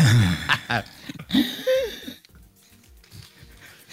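Someone clears their throat with a few harsh, raspy, gurgling bursts over about two seconds, then the sound stops and only faint background noise remains.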